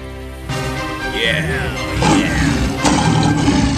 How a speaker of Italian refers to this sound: Il leone iniziò a ruggire e tentò di liberarsi dalla trappola, ma i cacciatori lo legarono stretto.